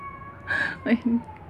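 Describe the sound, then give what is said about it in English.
A cat meows a couple of times in quick succession, a brief high-pitched call followed by a lower, throatier mew, over a faint steady hum. “Ah, come on, cat.”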